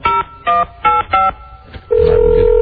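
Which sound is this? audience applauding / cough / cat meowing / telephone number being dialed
telephone number being dialed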